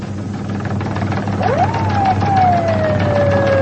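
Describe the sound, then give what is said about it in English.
A siren wails up sharply and then slowly winds down in pitch, loud over a steady low engine rumble. “Hit the siren, Doug.”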